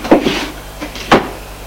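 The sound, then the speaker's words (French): A man goes to his desk in his office and pulls open a drawer with a short scraping slide, followed by two sharp knocks, the second one louder, against a faint steady hum. “Il ouvre un tiroir.”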